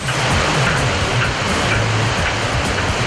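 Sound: flowing river water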